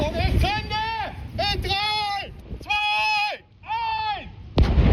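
A police bomb disposal expert's controlled detonation of a picric acid bottle, with 200 grams of explosive buried in the sand near the waterline on the Elbe beach at Falkensteiner Ufer: heavy booming blasts with deep, rumbling low end, accompanied by wavering, harmonic tonal sounds between the bursts.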